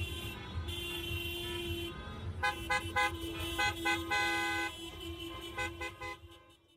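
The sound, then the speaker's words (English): Several car horns honk repeatedly over steady traffic rumble during a car parade commemorating the Nakba and protesting its ongoing continuation: a long sustained blast followed by a flurry of short rhythmic toots from multiple vehicles, fading toward the end. “But the current escalation by the Israeli occupation government in Palestine was a reminder that the Nakba is still ongoing, and this car parade became a commemoration of the Nakba, but also a protest of the ongoing Nakba that is happening today.”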